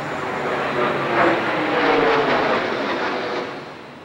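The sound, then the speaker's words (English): A low-flying American Airlines jet airliner roars overhead along the Hudson River, heading toward the North Tower of the World Trade Center in New York, a loud, broad rushing drone that swells to a peak midway and then slowly fades as it passes. No voices are heard. “At such a low altitude, I could read American on the fuselage.”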